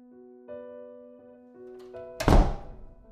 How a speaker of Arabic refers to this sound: صوت باب قفل فوق، وبعدين باب البدروم قفل.